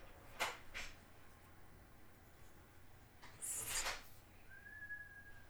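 A few brief clattering, rustling bursts as someone comes in through an apartment door, followed by a single steady whistled note near the end. Fairly quiet, with no talking.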